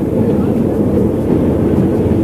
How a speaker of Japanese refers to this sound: 何の音するんですか。 やっぱりこの電車の車内音ですね。 いろんなおしゃべりしてる音なんか入るでしょ。 それは構わないんですよ、その場の雰囲気だから。